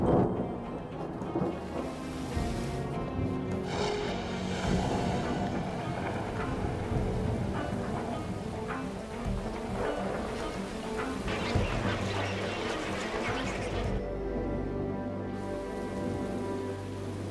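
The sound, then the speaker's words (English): Steady rain pours down in a dense, continuous patter while thunder rolls and rumbles, with a deep, heavy boom swelling near the end. No voices are present. “Water evaporates from the surface of the sea, forms clouds that return water to land and sea as rain, sleet, and snow.”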